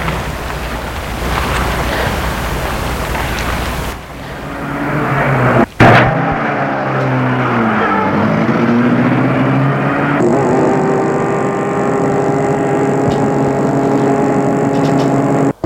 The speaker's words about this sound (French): La voiture entre dans l'entreprise. Ils suivent des rues privées comme des rues de ville avec feu et signalisation.